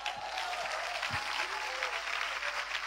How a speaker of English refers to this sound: It's a good place to clap.